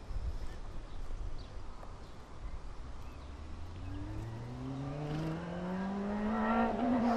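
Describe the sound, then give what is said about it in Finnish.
A motorcycle engine passes by a fenced pasture where animals graze, its pitch climbing steadily as it revs and grows louder over a low outdoor background rumble, with no talking. “Ei paljon häiritse moottoripyörän äänet eikä munkaan höpöttely niitä saitauksen reunalla.”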